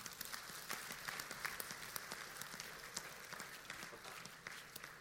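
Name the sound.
audience clapping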